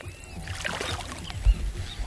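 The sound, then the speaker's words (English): An environmental patroller swirls a stick through the muddy, sediment-filled water of St. Sylvester Lake near Barranca Bermeja, Colombia, giving a churning, gurgling wash of splashes with a couple of dull low thumps. No one speaks. “To show how bad it is, Velasquez stirs a stick in the water and pulls it out.”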